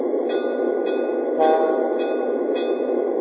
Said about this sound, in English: Roger that, dispatcher. I'm stopping my train. Out.